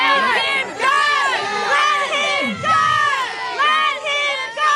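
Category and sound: crowd, protesting crowd shouting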